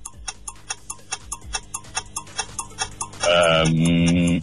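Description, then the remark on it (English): A five-second countdown timer on a quiz show ticks in a steady rhythm of sharp clicks, about four per second, while a contestant answers a question, then a loud sustained buzzer tone sounds for the final second. “All right, don't let that 5-second timer get in your head.”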